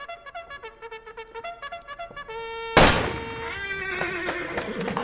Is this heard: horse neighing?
yes